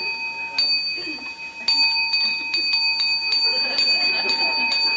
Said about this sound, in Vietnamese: Bởi vì mình dặn hãy nghe chuông. Phải chi mà mình nói lâu lâu mình điểm một tiếng vậy, mình dặn nó nghe chuông mà lại nghe không, mà ông cứ mà hồi 3 hồi rồi.